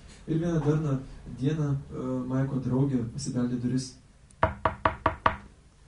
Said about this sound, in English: she came knocking on Mike's door.